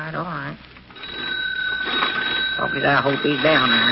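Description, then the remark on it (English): A telephone rings with a steady, sustained bell tone for several seconds, fairly loud, while a man's voice talks before and over it. “Will you hash up and get on that phone?”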